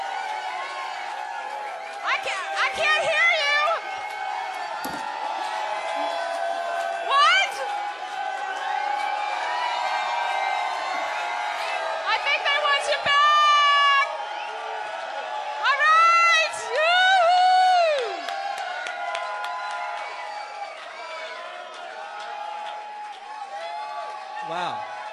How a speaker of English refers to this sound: Loudest applause we got was when we tried to leave the stage, so I'm getting mixed signals.